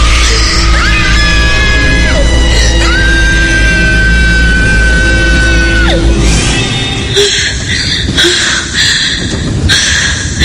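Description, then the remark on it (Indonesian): A loud, piercing scream held for several seconds with sharp pitch bends, then breaking into shorter ragged shrieks over a dense, noisy background. “Dan dia teriak kencang di depanku.”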